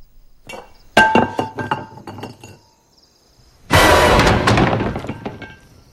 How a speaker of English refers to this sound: He accidentally knocks a tin mug off the corner of a table and stoops to pick it up.